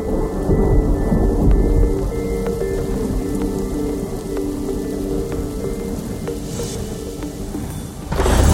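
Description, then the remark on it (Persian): Steady, heavy rain pours down, with deep rolling thunder rumbling underneath throughout, and no voices present. “بارون میزنه قلبم میشکنه”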